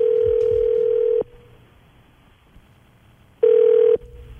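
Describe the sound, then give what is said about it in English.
A telephone call rings through on the line: a steady ring tone sounds for about a second, falls silent for two seconds, then rings again briefly; no one speaks. Someone picked at random from the phone book is being called for the Cannon's Questions survey segment on New York's 92.3 Now. “Every morning, I randomly call someone out of the phone book to see how long I can keep them on the phone with my ridiculous survey questions.”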